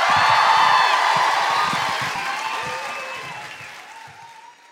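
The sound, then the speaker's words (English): A large audience applauds and cheers, dense clapping mixed with scattered whoops and shouts, loud at first and gradually fading over a few seconds. “You're going to break into spontaneous applause.”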